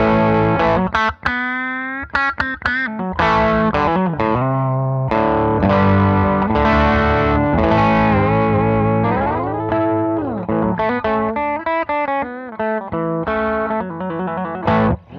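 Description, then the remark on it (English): An electric guitar played on the bridge pickup through a Sacred Cow overdrive pedal with all controls set at noon, giving a warm, mildly driven tone. Sustained chords and bends ring out alongside quicker single-note phrases, loud and steady for the whole stretch, with no talking. “That's a guitar, and it sounds like a Klon to me.”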